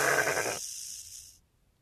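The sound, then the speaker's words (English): A prank toy lets out a single loud, buzzy sheep bleat lasting about half a second, then a thin airy hiss trails off before it goes quiet. No one speaks. “I hate the rattle sheep. It frightens me.”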